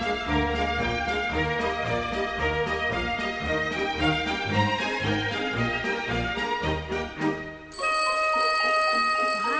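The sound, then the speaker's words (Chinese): Busy orchestral music plays with a steady rhythmic pulse in the piece's C section, then near the end a bright clock bell rings out in a sustained metallic trill. There is no talking. “时钟铃铃的声音哦， 这是显示音乐啦。”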